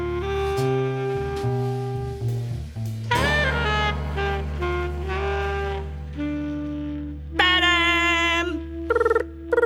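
A telephone rings at Arthur's home near the end in bright, shrill bursts with short gaps, sounding over an upbeat instrumental tune with a steady bass line; the caller is the policeman. No one speaks.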